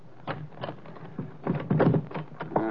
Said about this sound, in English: Wait a minute till I unlock the door.